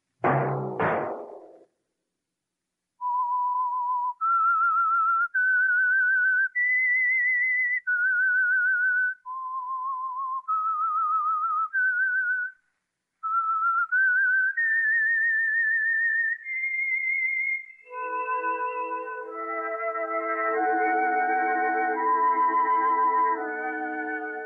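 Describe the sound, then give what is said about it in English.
A lone whistler carries a slow, stepwise melody of sustained clear notes, rising and falling, after a couple of sharp knocks, as the signature signal of a weekly radio drama program; it ends swelling into a full orchestral chord. “That whistle be your signal for the Signal Oil program, The Whistler, each Wednesday night at this same time.”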